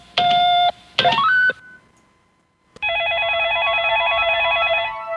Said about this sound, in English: Chuck, you got another phone call.